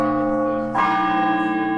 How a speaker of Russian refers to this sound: И сразу же в колокола зазвонили, как на Пасху.